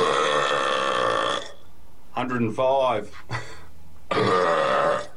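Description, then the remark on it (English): A long, extremely loud human burp from an Australian man attempting a burping world record rumbles for over a second, followed by a short burst of voiced sounds and then another loud, sustained belch. “So here is actually the burp that he thought he broke the record with.”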